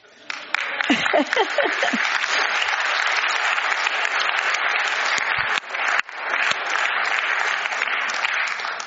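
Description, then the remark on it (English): An audience breaks into sustained applause, a dense, steady wash of many hands clapping for several seconds, with a brief voice audible just as it begins. “I think we ought to be clapping.”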